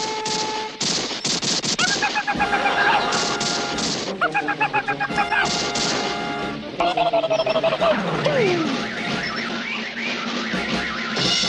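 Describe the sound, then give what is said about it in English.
Rapid, loud bursts of gunfire strike a moving car as its occupants are shot at, in sharp clattering volleys, mixed with pitched whining and wavering tones that rise and fall throughout. “That's not hail, and it's not funny. They're shooting at us.”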